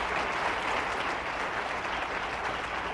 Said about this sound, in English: I believe we ought to give him a good clap offering. Thank you, Jesus.